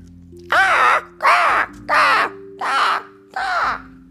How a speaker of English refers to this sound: Like a sudden storm, a summer storm cloud, they swirled around the cake, pecking, nipping, flapping, picking.